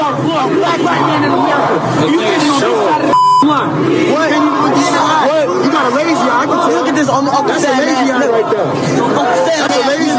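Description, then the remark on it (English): One short, steady censorship bleep over profanity cuts in about a third of the way through, sounding over loud, continuous crowd chatter with many overlapping voices talking and shouting, as two African-American men in the crowd taunt an African-American National Guardsman. “bleep-filled”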